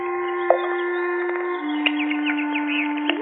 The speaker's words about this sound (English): What's that? Birds playing in the fish pond. Look at them. Happy birds.